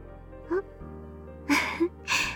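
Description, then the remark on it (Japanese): A big yawn: a short voiced note, then a long breathy inhale, a brief rising groan, and a drawn-out airy exhale, over a faint steady low hum. “大きなあくび。あなたも同じようですね。”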